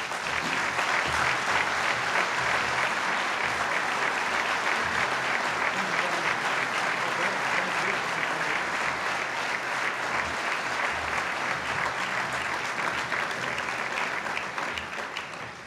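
Sustained audience applause as an award is presented to a family, a dense steady wash of many hands clapping at an even loudness for about fifteen seconds before it starts to thin out at the very end.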